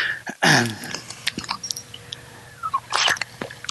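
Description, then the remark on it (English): A speaker pauses during a morning sermon to take a drink of water: a loud wet gulp at the start, soft mouth clicks and swallowing noises in between, then another gurgling swallow near the end. “Excuse me, I have one more drink of water.”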